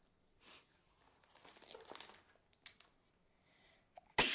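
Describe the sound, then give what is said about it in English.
Soft rustling and faint shuffling fill a quiet stretch, then a single sudden, loud sneeze bursts out right at the end. “Bless you.”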